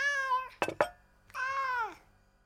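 A hungry cat meows twice at 5 o'clock before being fed, each a drawn-out, harmonic cry, separated by two short sharp knocks or taps; no voices, fairly loud.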